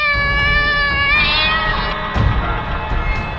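animal, cat meowing

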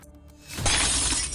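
impact, mirror shattering

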